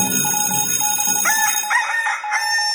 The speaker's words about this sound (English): Cock-a-doodle-doo.